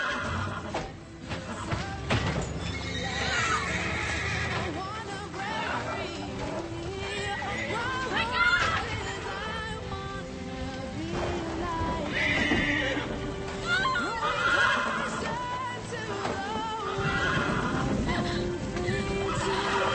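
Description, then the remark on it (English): Horses whinny and neigh repeatedly amid steady clip-clopping hooves and a busy, noisy background, with people's voices mixed into the commotion throughout. “take your horse.”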